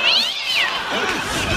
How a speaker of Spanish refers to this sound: La peleta con los gatos, amigo. Peleando con los gatos, ¿viste?